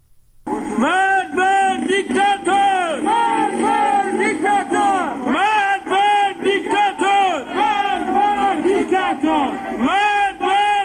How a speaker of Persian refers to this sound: همچنین بنابر تصاویر دیگری، شماری از معترضان در سنندج شامگاه دوشنبه با بستن خیابان و روشن کردن آتش شعارهای علیه مقامات حکومتی سر دادند.